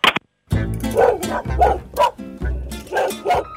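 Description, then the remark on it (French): A dog out on a walk with its owner barks repeatedly, about half a dozen loud, deep woofs in a steady rhythm with brief pauses between them, after a short sharp sound at the start. “Hop, ah ouais, il se promène avec son chien.”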